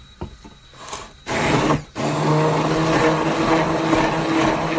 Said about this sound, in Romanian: Ia să pun eu blenderul în funcțiune.